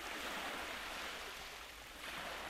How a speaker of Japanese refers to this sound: 海の音に包まれて、波の音に誘われ、静かに、ゆっくりと、夢の世界へ。